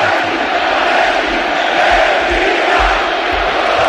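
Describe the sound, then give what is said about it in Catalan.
A huge crowd of Athletic Club fans in Bilbao, celebrating a historic victory, roars and sings the anthem together in a sustained, dense wash of voices, steady and loud throughout with no individual speech standing out. “Està cantant l'himne ara, eh?”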